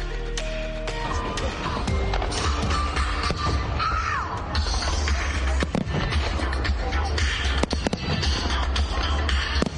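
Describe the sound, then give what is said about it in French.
A big fireworks display on the National Mall in Washington, DC, United States, from 9 p.m. for about 17 minutes, with dense, continuous booms and crackling bursts overlapping one another and a deep rumble underneath, loud and sustained throughout, with faint whistling streaks rising in between. “Toujours à Washington DC, à partir de 21h et pendant environ 17 minutes, depuis le National Mall, les Américains ont eu droit à des grands feux d'artifice.”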